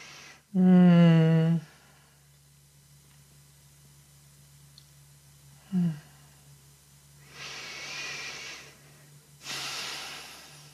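deep breathing

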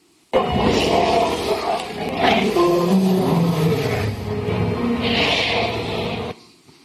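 dinosaur roar

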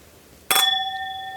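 drinking glasses clinking

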